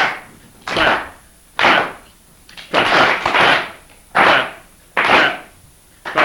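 Sharp hand claps, practising a rhythm to be put over a song, ring out one at a time in a steady rhythm, about six or seven in all, each with a short echoing tail, with no talking in between.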